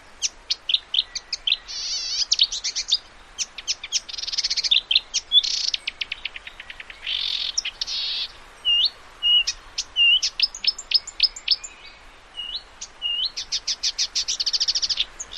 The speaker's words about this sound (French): Et justement, la grive musicienne, moi je la trouve parfois un peu dure à détecter parce que comme elle imite plein d'oiseaux, voilà. Il faut vraiment tendre l'oreille et s'y habituer.